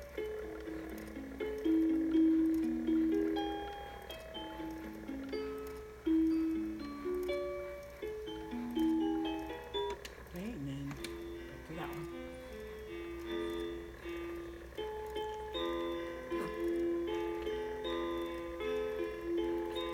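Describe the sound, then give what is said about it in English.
A baby's crib mobile turning slowly, its tinkling music-box lullaby playing a steady, bright melody over a faint mechanical ticking and whirring from the spinning motor. “What you're also hearing is you're hearing the mobile, whatever they call that thing. You're hearing it spin. It spins slowly.”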